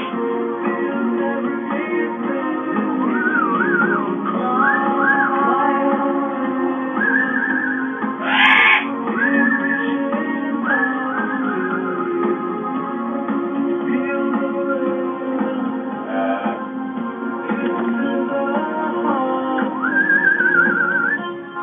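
A pet bird named Buddy whistles continuously in rising and falling tuneful phrases over steady background noise, with a brief brighter squawk-like burst partway through. No one speaks.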